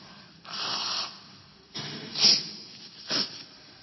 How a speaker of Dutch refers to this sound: Ik ga even mijn neus snuiten.